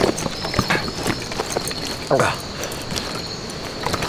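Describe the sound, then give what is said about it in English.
A horse's hooves clip-clop in a slow, uneven walk as the rider steps it closer, several distinct strikes spread across a few seconds, with faint creaking tack and a steady high whine in the background. “stepped his horse closer, and handed it to Sims”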